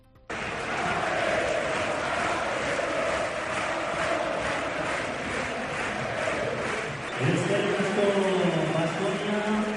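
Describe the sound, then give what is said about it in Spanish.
A large stadium crowd of Alavés and its fans at Mendizorroza roars with sustained applause and cheering in a toast to Baskonia's title, loud, with rising shouts and chanting voices swelling toward the end. “Ayer en Mendizorroza ya hubo un primer brindis con aplausos del Alavés y su grada.”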